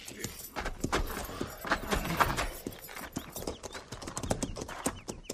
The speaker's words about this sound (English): Ease those cinches and lead the mounts down to the stream there and water.